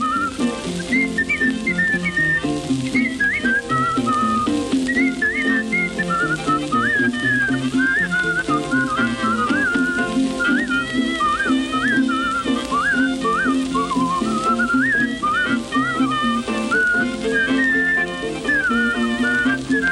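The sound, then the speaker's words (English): A person whistles a lively, bouncing melody in a ragtime style, steady, with a plinking accompaniment underneath running continuously throughout. “I said, well, all right, whistle it, I can play.”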